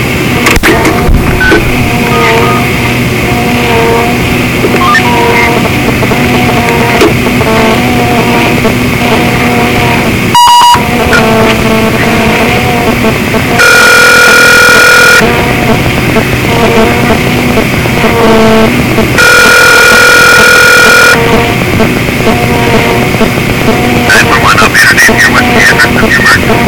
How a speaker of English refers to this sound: If you notice, the phone is being misdirected, redirected. I'm making a call to 911 regarding my phone, and the call is being redirected. You can hear the squeaking in the phone as it's being redirected.